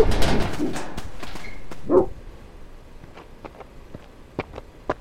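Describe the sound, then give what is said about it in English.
A big dog barks and snarls aggressively, a loud rough burst followed by a shorter bark, then quieter scattered clicks and rustles. “You brought a friend. A big... angry friend. Shoot. Go away. Dog.”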